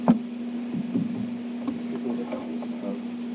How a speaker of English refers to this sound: Can you turn that down slightly? That's the air conditioner.